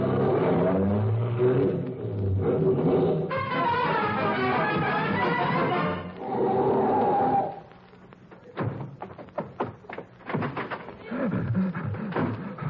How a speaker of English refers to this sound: Now, in radio, this is the way you get places in a car.